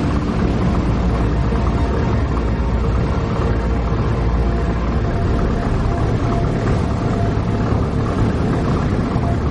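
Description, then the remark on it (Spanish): A ship's engine rumbles steadily and loudly as the boat sails out to sea at night, a dense low drone with a hissing wash of water or wind on top, unbroken for the whole stretch with no voices. “De noche el barco navega mar adentro.”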